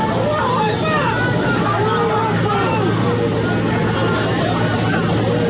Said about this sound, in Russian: Пассажиры рейса из Тель-Авива не успели пересечь зеленый коридор, когда толпа местных жителей ворвалась в здание аэропорта с флагами Палестины и антисемитскими лозунгами.